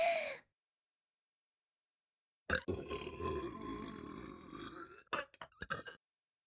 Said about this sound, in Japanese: あ、出た。まだ出る。やだ、下品すぎ。まだ出るかも。まだまだゲップぶちかましてあげる。